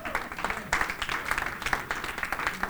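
A crowd applauds with dense, overlapping hand claps that fill the room steadily, fairly loud and close, with a faint murmur of voices mixed underneath.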